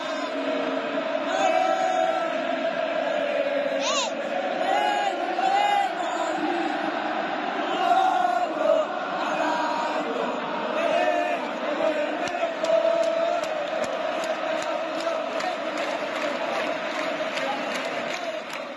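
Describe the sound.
Atlético Madrid football fans at the club's home stadium roar and cheer after an Atlético goal, a dense, sustained wall of crowd noise with shouts, whistles and chanting voices rising above it for the whole stretch.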